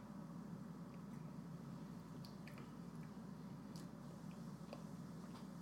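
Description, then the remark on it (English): Someone quietly sips a dark daiquiri cocktail, with soft wet mouth clicks and small slurps scattered over a steady low background hum, with no talking. “Let's sip this thing.”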